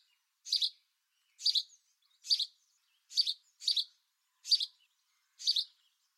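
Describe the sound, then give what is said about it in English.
A male house sparrow repeats a simple, bright chirp about eight times at a steady rhythm, each note a short high burst with silent gaps between, and no voices or other sounds. “So that is the main sound that you hear from a male house sparrow.”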